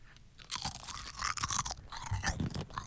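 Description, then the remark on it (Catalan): Crunchy chewing of peanuts, a steady run of loud, bright crackling bites and grinding over about two and a half seconds, with no talking. “Passa'm el cacaulet.”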